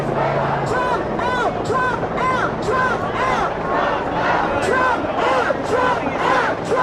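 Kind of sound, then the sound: crowd, protest crowd chanting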